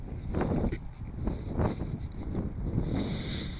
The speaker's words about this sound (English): Fuck, it's so fucking windy. I'm like literally getting a headache from how fucking windy it is.